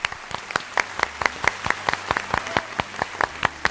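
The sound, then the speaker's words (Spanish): Applause from a small group, given as the applause of the day for the Madrid Metro, a steady patter of sharp claps at a brisk, fairly even rhythm, moderately loud with no voices over it. “el aplauso del día lo podemos poner pues para a mí me el Metro estupendo de Madrid.”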